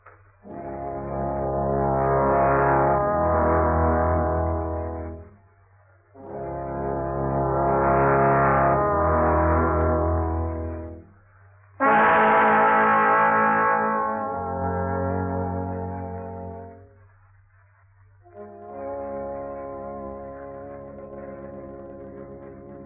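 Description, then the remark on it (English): The deep bell of St. Peter's tolls at nine o'clock at night, four slow, heavy strokes, each ringing on for several seconds with a rich, humming resonance beneath, and no voices over it. “That night, as the bell of St. Peter's was tolling 9 o'clock”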